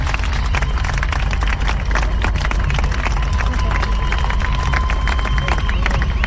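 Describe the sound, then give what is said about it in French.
A large crowd at an evening march gathering applauds for Jamila Bouhered, dense overlapping claps at a constant, fairly loud level for several seconds, with a murmur of voices mixed in underneath. “Applaudissez-la, même pour ceux qui ne la connaissent pas.”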